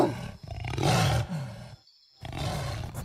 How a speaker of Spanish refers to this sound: De lo profundo del bosque escuchamos un gran rugido y de las sombras despacio salió un jaguar enorme.